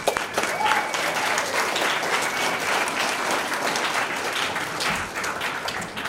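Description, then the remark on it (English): An audience at Dayspring bursts into sustained welcoming applause for a couple coming up to share their testimony, a dense, steady wash of many hands clapping at even loudness for about six seconds, with faint crowd murmur underneath. “And let's also give them welcome applause as well.”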